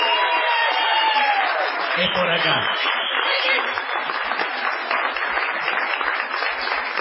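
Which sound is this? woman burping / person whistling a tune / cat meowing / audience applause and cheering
audience applause and cheering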